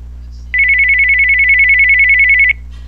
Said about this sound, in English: My new home phone ring. And I'm gonna hit the tab button. Button. And I'm gonna hit space to play it.